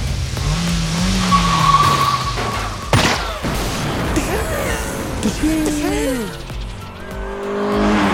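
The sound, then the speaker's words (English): A loud, busy Bollywood movie car chase: engines roar and tires screech in rising and falling whines, with a sharp blast cutting through partway as a car is shot at and explodes, and dense action noise running continuously throughout. “It's about cue the guy shooting at a car and explodes.”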